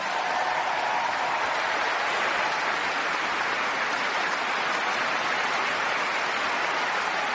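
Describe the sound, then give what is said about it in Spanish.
A large crowd at the first match of Wimbledon applauds warmly in tribute to Dr. Gilbert before play begins, a dense, steady wash of clapping that holds at an even loudness for the whole stretch, with no voices rising above it. “Ayer era invitada al primer partido de Wimbledon y antes de comenzar se pidió al público que le rindieran este caluroso aplauso.”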